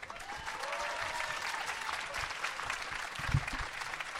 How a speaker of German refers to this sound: Okay, deswegen jetzt mal einen dicken Applaus hier für den ersten hier, den Freund von Sebastian 23,